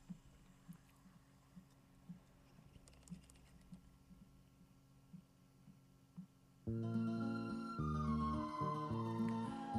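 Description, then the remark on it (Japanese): A cassette player's play button clicks after a cassette is inserted side A facing front and the lid closed, then the tape mechanism runs with a faint, steady ticking for several seconds before loud music suddenly starts playing from the tape. No one speaks. “再生ボタンを押します。”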